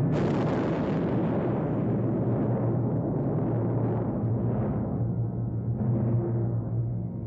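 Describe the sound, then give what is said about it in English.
A massive explosion of a large bomb deep underground booms out with a deep, sustained rumble that rolls on for several seconds, loud and heavy with low-end roar, causing a local earthquake, slowly fading with no voices over it. “Driven down like a shot from a cannon, this bomb, by its very size and penetration, will explode deep underground and cause a local earthquake.”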